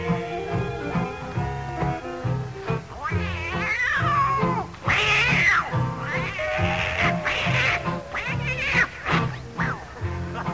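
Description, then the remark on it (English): An old tomcat starts a fight: cats yowl and caterwaul in a loud, wavering fight, the screeching cries rising and falling over a steady musical backing that continues throughout. “Now, on that very same night, now that old tomcat started a fight. And this is the way it all did sound to me.”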